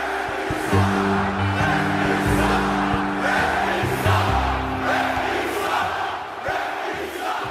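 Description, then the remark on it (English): A huge arena crowd of about 18,000 people roars, screams and boos nonstop, a dense, loud wall of voices swelling in waves, with low droning tones running beneath the din. “Does the sound of those 18,000 people screaming at you or booing you, does it sound any different than it sounded when you started?”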